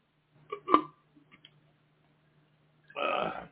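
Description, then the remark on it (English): Someone coughs and sputters after a drink goes down the wrong way: two sharp, throaty bursts, a short pause with faint gulping clicks, then a longer, harsher rasping cough. “I swallowed that wrong.”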